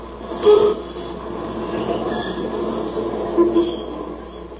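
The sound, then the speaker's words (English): A subway train rumbles steadily and loudly along the rails, with brief metallic whines rising near the start and again toward the end. No one speaks. “Well, do you mind if I ride with you on the subway?”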